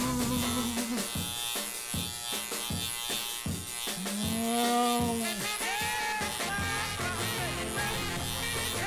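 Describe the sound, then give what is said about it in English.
An electric bug zapper buzzing loudly and continuously, a dense harmonic drone with rapid stuttering pulses early on and a pitch that swoops up and back down midway, with no voices. “I got one of those things next door to me that zaps them.”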